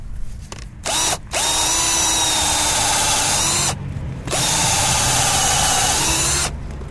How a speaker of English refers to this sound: So I'll go ahead and get the drill out. And give this guy a shot right here.